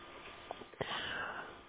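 Faint interference on a home radio that has been working intermittently: a steady static hiss broken by a few short crackling bursts and a sharp click, as if the signal briefly cuts out. No one speaks.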